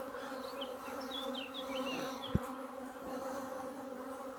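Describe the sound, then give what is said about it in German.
A dense, steady drone of many honeybees buzzing at an open hive as the frames are pushed back together, with a few higher chirps drifting over it and one brief knock partway through, with no one speaking. “Manche sprechen sogar von Pressing, dass man die Bienen durch dieses enge Halten auf wenig Rähmchen so wenig wie nötig oder so viel wie nötig, aber so wenig wie möglich, dass man die Bienen also hochpresst in den Brutraum, in den Honigraum natürlich.”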